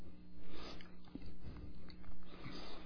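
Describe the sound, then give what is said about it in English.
Wet crunching of a cough drop being chewed, with several uneven bites and grinding sounds over a few seconds and no talking. “I hope that was a cough drop.”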